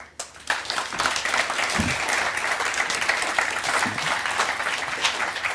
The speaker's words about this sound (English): All right. Big applause for them. Great job. Great job. And thank you for this very insightful talk.